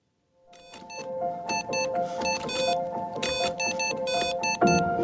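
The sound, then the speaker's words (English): Morse code beeps: bright, high-pitched tones switch on and off in short and longer bursts, an irregular dot-and-dash rhythm over a steady lower hum. No one speaks. “And for all you guys that think Morse code's dead, watch this.”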